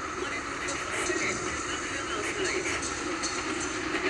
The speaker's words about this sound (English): Is a train.